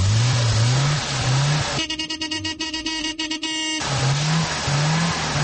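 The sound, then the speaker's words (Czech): A Yugo car engine revs repeatedly in rising sweeps as the last Yugo leaves the production line, with a few workers present. It settles into a steady, rattling buzz for a couple of seconds, then resumes revving. No one speaks. “Za razliku od glamuroznog i radosnog starta proizvodnje, ispraćaj posljednjeg Juga sa proizvodnih traka obavljen je u kamernoj atmosferi uz prisustvo nekolicine radnika koji su obavili završne radove na njemu.”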